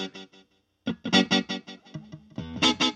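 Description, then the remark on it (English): Guitar-like notes pass through an echoey delay effect, each hit followed by quickly repeating, fading copies. The rhythmic repeats stack up over about three seconds of moderately loud playing. “One delay sound that you can get is more of a echoey repeating signal. You might hear it in like reggae or dub.”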